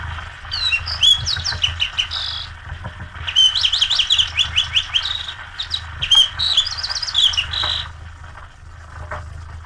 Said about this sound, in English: He sings from a perch on top of a bush or a small tree. And the loud, short song is a variable carol of clear, melodious notes, richer than those probably of any other sparrow. Generally, the song rises in pitch and then falls on the closing notes.